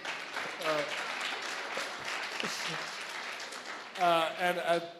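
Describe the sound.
A crowd applauds in a steady, dense wash of clapping, with voices rising over it and a loud shout or cheer near the end.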